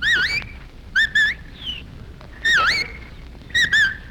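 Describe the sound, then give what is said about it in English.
A small bird perched on a man's head and pecking at an apple chirps and whistles in short, bright, warbling bursts, four or five quick phrases with pauses between, high and clear over a faint background hiss. “A bird just lit on … head and is pecking at the apple.”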